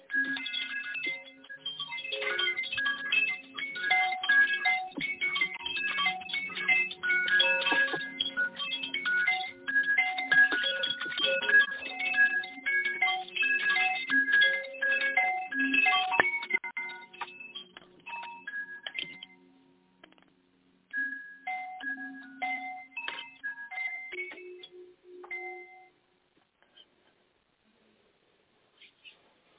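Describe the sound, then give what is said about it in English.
Bright metallic chimes of a fire element chime ring in a dense, shimmering cascade of overlapping tones, then thin out into scattered, lingering strikes that fade to silence near the end. “And then one more big, deep breath in as you focus in on the sound of the fire chime.”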